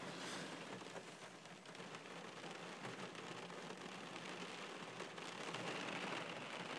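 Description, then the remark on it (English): Steady rain falls outdoors about 150 yards from castle walls, a dense, even hiss of drops pattering on surfaces for the whole stretch with no voices, holding a constant level throughout. “So I'm going to get wet.”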